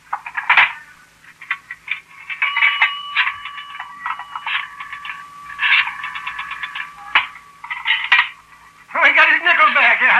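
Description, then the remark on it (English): A nickel rings into a payphone, followed by a run of short metallic clicks and tones as the number is dialed, fairly loud over a low hum, with a voice starting at the end. “Where's your phone? It's right there. It's a nickel.”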